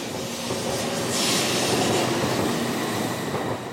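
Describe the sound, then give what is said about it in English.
A Tokaido Shinkansen bullet train in Japan rushes along the rails with a steady, loud roar and a brief hiss rising midway, continuous throughout with no voices. “When you first board the Tokaido Shinkansen, the bullet train as it's commonly known, you hear two voices.”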